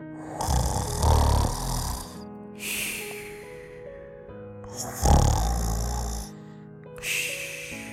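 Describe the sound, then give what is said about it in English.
A voice imitates loud snoring: two deep, rattling inhaled snores, each followed by a softer breathy exhale, in a slow, even rhythm with no talking. “This snoring elf loved to snore. When the snoring elf snored, he sounded like this.”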